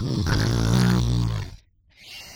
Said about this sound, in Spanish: Ya al silenciarse el molesto sonido, se podía volver a dormir, roncando a pata suelta.